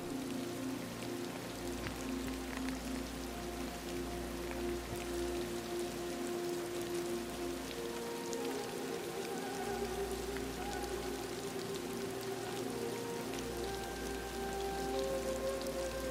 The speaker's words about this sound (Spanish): Quizás tumbarte y descansar mientras escuchas el suave murmullo de la lluvia que te envuelve.